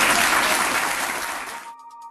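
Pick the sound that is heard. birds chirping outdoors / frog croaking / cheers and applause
cheers and applause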